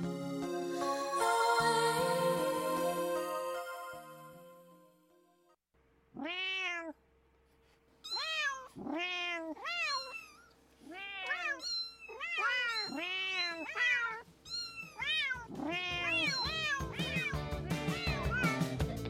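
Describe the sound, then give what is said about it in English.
After a few seconds of music fading out, a cat meows repeatedly and loudly, a rising-and-falling series of drawn-out cries with short gaps between them, alone with no talking. “And in case you don't speak cat”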